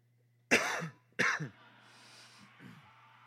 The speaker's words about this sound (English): It's the best part of the podcast is when you cough into the mic and then we stop and start watching TV.